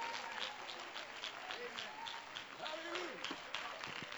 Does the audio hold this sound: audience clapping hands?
yes